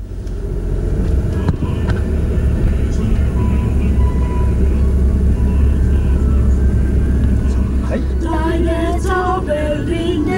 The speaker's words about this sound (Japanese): 二人は全体練習以外にもう一つ練習場所があります。それは車の中です。